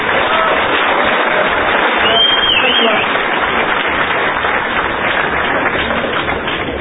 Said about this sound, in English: So let's give him a round of applause for zooming in just for us.